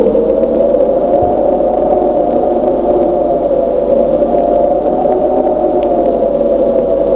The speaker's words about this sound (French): Pas le moindre bruit, sauf celui du vent.